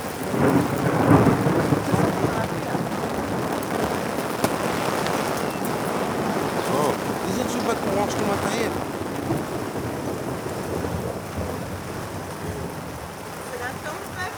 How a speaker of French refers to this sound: Commence à pleuvoir. Bon, il pleut pas beaucoup, donc je suis un peu gêné. Hein, c'est sous la pluie, la sensation que j'ai, c'est qu'il pleut. Là, je crois qu'il faut faire un truc parce qu'on est très mouillé. Il pleut beaucoup là.